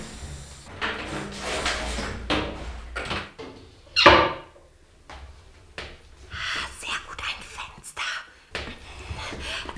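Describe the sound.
A toilet door in the entrance hall of a large house shuts with one sharp thud midway through, set among soft whispered voices and quiet rustling movement.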